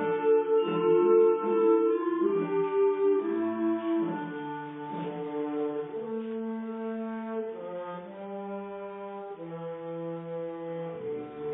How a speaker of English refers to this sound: That's a nice rolling tondo, and there I could hear the bassoons and the bass clarinets very clearly. Nice tone.